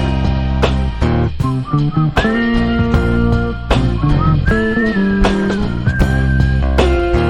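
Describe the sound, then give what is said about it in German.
A clear, sustained whistled melody glides and bends over a dense fusion band groove with guitar, bass and sharp drum hits, the whistling sitting up front and continuous throughout. “und dachte ich mir, jetzt ist der Moment gekommen, wo … und … zusammen spielen sollten und deswegen habe ich mich dann da als Pfeif-Künstler, als die … des Fusion.”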